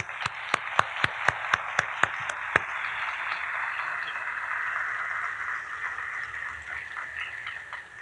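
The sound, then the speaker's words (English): A quick run of sharp, evenly spaced claps opens into a steady wash of audience applause welcoming a speaker presenting a paper titled The Moral Vision of Proverbs, carrying on at an even level, with no one speaking. “Please join me in warmly welcoming”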